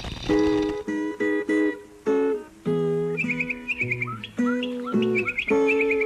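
Quick bursts of bright bird chirps and trills repeat with insect sounds over sustained, tonal musical notes, the signal of Radio RSA, the public radio of South Africa, fairly loud, with no voices.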